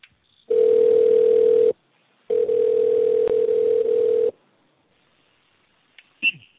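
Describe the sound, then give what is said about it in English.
A telephone dial tone heard while calling someone back after a dropped call: a steady, low electronic hum that sounds for about a second, breaks briefly, then resumes for two more seconds before stopping, followed by a faint short chirp. “Oh, well, I wasn't hearing you back, so I did a call back. That was funny.”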